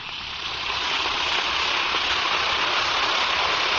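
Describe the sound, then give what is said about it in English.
An Alka-Seltzer tablet fizzes steadily in water, a dense crackling hiss of tiny bursting bubbles that swells in the first second and then holds even and continuous, with no voices. “Now, listen to it fizz.”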